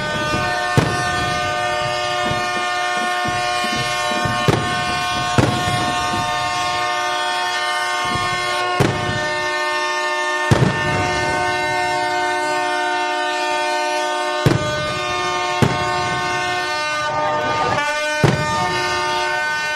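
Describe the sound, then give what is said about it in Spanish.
Ship sirens blare together in a long, unbroken chorus of steady, overlapping horn tones, loud throughout, punctuated by occasional sharp knocks and bangs, as boats in the harbour of Tapia sound their sirens while the Virgen del Carmen procession passes through the port. No one speaks. “Las sirenas de los barcos que suenan al paso de la Virgen del Carmen en su desfile por el puerto.”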